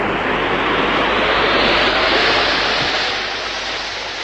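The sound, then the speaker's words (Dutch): A spacecraft gyroscope powers up into a loud, steady rushing hum that swells over the first two seconds, then eases slightly, with no voices present, as the craft prepares for a landing on the Moon. “De Giro, dokter. Giro, contact.”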